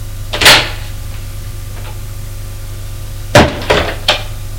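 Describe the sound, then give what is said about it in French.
A door opens with a sharp latch click and a knock of wood as a father comes home at night, followed after a pause by a quick cluster of clunks and rattles against a low steady hum. “C'est son père qui est rentré.”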